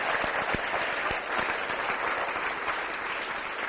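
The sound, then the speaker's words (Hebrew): An audience claps steadily for several seconds in applause for the many volunteers and staff, a dense wash of many hands with a few sharper individual claps standing out, fairly loud and continuous with no talking. “מחיאות כפיים לכל האנשים האלה.”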